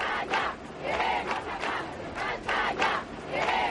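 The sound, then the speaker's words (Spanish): A large protest crowd in Spain, at a demonstration over the kidnapping of Ermua councillor Miguel Ángel Blanco, chants together in unison, loud rhythmic bursts of many voices rising and falling in a steady repeating cadence, with no single speaker standing out. “Tal día como hoy se organizaron concentraciones y manifestaciones por todo nuestro país con un grito unánime.”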